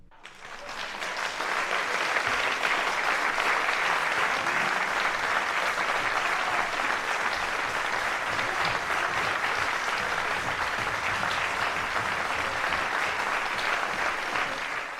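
Sustained audience applause, a dense steady patter of many hands clapping at an even loudness for about fifteen seconds, swelling in quickly at the start and easing slightly at the end.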